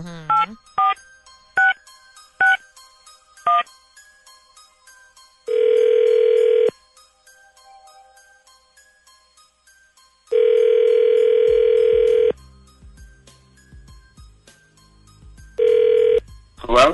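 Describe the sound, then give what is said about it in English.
A run of short, sharp dialing tones is followed by a phone's ringback tone, which sounds in long steady bursts separated by pauses, with faint voices murmuring in the gaps. “Now, you got a few minutes here while we're in a commercial break, and then what we'll do is we're going to need that list and his phone number, and we'll call him when we come back, okay?”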